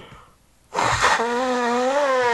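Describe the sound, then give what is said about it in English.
After a moment of quiet, someone blows their nose: a sudden breathy rush of air turns into a loud, sustained, honking buzz that wavers slightly in pitch and runs to the end. “I'm about to blow my nose.”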